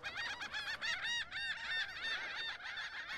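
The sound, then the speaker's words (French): A flock of birds calls loudly and continuously, with overlapping harsh, honking cries layered densely over one another, sustained throughout with no talking. “Ah non, ça c'est les oiseaux.”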